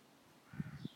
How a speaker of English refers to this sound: And that bird's in the tree right next to me. It wouldn't be here if the cats were out. I haven't let them out yet. Hello, bird.